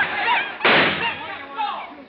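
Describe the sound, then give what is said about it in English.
A single sharp shot from a revolver pulled out by a man with a beard cracks out as a loud, noisy burst, cutting through a man's voice that keeps talking before and after it. “But before he reached it, the man with the beard pulled out a revolver.”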